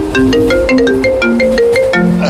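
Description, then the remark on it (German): A smartphone ringtone plays loudly, a bright synthetic melody of quick stepping tones repeating in a steady pattern, with no voices over it. “Ältere Smartphone-User wissen oft nicht, dass man ein Handy lautlos stellen kann, zum Beispiel im Zug.”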